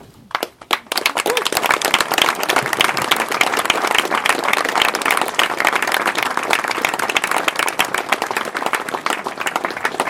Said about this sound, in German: Ja, vielen Dank für den freundlichen Applaus.